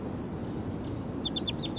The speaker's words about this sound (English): And the wild bird's calling in the back.